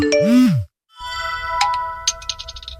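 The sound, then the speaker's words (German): A WhatsApp message notification tone: a short swooping electronic chirp, a brief silence, then a run of bright, ringing pings over a sustained tone, clear with no talking. “Meistens telefonieren die beiden allerdings und schreiben sich WhatsApp-Nachrichten, denn ein Liebesbrief klingt heute meistens ja doch so.”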